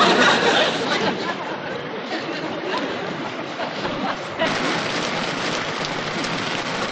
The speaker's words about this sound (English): Boy, it sure is raining out there. Pouring. I sure would love to know how I'm going to change that tire in this rain.